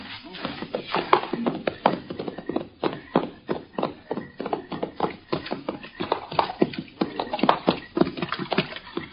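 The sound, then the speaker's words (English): Several horses setting off as men mount up and ride out quietly at 1 o'clock on a moonless night, their hooves clopping in a busy, overlapping rhythm that keeps up steadily from start to finish, with a bit of rustle and jostle mixed in. “All right, men. Mount up. Keep quiet.”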